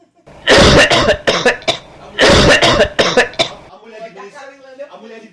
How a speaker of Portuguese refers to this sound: Ela ficou boa e tudo. Ela boa? Manda ela tossir aí, vai, tossa aí.